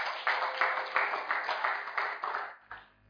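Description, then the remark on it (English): An audience claps together in a steady, even rhythm, about three beats a second, the sound full and moderately loud before it thins out and stops near the end. “It's good to clap if you want to clap.”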